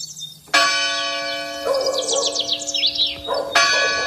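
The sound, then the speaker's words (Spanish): Church bells in Mejorada del Campo, Madrid, Spain, strike six in the morning: two loud bell strikes ring out about three seconds apart, each leaving a long, humming metallic decay, while birds chirp and twitter busily in the background. “Las campanas de mejorada del campo en Madrid acaban de dar las 6 de la mañana.”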